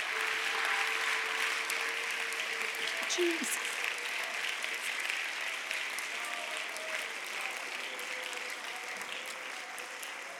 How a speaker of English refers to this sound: Let's give the Lord a hand clap of praise one more time.